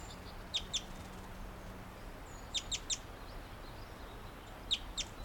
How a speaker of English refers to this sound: Another wild bird is on a Jeffrey pine cone on the ground. That's him chittering back up to the low branch of a tree.